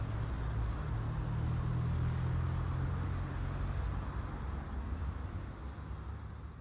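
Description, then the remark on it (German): A car engine rumbles loudly and steadily, its low drone easing slightly as the vehicle drives away. No one speaks. “springt ins Auto und fährt los.”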